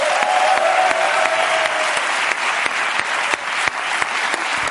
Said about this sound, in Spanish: Un aplauso para Jorge Ponce, que es que...